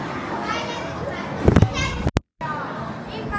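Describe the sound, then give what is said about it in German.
A phone falls from a height of 1.80 metres and smacks onto a tiled floor with a sharp, rattling clatter of a few quick hits, and the sound briefly cuts out completely. Children's voices chatter in the background throughout. “So haben wir das gehört, das Telefon ist gerade aus 1,80 Meter Höhe einfach mal auf die Kacheln geklatscht.”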